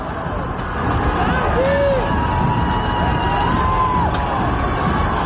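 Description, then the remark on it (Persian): A large crowd of protesters in Saadat Abad, Tehran, roars in a dense, continuous wash of shouting and babble, with a few voices rising into drawn-out calls above the steady din. “حضور معترضان دیده میشه که عمدتا با شعارهای علیه مسئولان حکومت جمهوری اسلامی، حمایت از شاهزاده رضا پهلوی هست و در برخی از اونها موضوع آتش گرفتن برخی اماکن و تجهیزات مربوط به نیروهای انتظامی برجسته میشه، مثل این ویدیو از سعادت آباد تهران.”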